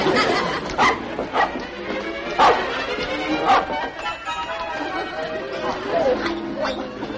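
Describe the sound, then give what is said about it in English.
A small dog barks in short, sharp bursts, several times over a few seconds, with background voices and some noise around it. “will you please do something about that dog?”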